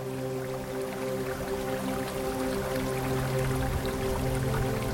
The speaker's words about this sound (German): Das Wasser des Baches sprudelt über glatte Steine hinweg.